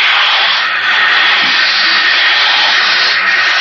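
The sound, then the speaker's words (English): A steady, loud rush of water pouring against a ship's bulkhead, a dense hissing roar that holds constant throughout with no pauses and no voices. “It's water pouring against the bulkhead.”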